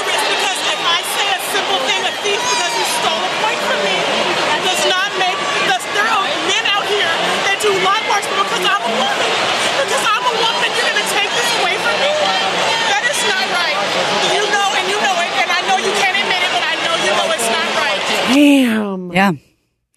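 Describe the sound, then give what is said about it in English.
A large crowd at a game chatters and murmurs steadily during a delay in play, a dense, loud wash of overlapping voices, with occasional louder shouts rising out of the babble before it cuts off abruptly at the end. “What's the crowd doing? I think they like the delay.”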